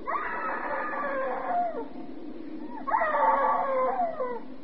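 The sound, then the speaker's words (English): A woman screams twice in long, wavering cries, each lasting over a second with a short gap between. The screams are fairly loud, with no talking. “Hey, screaming woman.”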